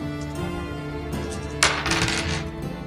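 Dice clatter sharply onto a hard surface as a player rolls for a haggling check, a quick rattling tumble that settles within about a second, heard over steady soft background music.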